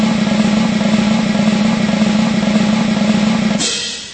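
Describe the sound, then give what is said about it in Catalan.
A steady, sustained drum roll introducing number one in a countdown rumbles loudly for several seconds, then breaks off into a bright, splashy cymbal-like finish that quickly fades. “Molt bé, doncs escolta, arribem al número 1, redoble.”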